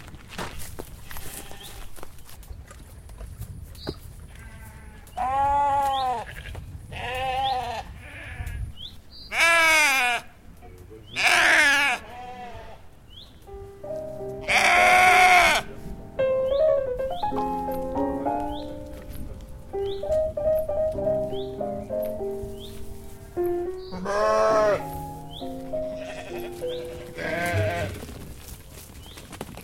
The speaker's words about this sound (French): Et là, c'est toutes vos brebis, là. Ouais. Alors là, il y a des brebis et puis il y a des alliés qui sont occupés là-bas.